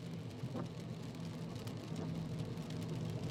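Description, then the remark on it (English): Steady rain drums on a car roof over the low, continuous hum of the vehicle driving at night on the way to a diner, an enveloping patter with no voices. “The steady thrum of the rain against the roof droning on and on, and the passing yellow streetlights wash over you and through the car like little waves.”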